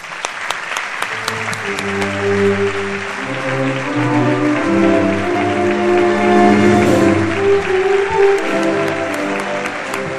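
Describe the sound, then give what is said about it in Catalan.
A large audience applauds loudly and continuously for about ten seconds, a dense crackle of many hands clapping at once, with a low sustained tonal sound running underneath, applauding those who prepared the town's patron saint festivities. “Un fort aplaudiment.”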